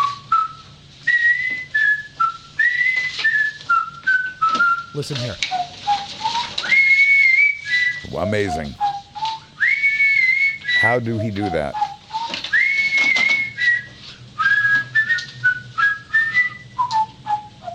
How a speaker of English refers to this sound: not a particularly technique-wise great whistler, but he does whistle chords. I'm glad you mentioned the Andy Griffith Show because that's the tune he does. Ooh, cool. Let him get past the first part and you will hear this is only one guy whistling.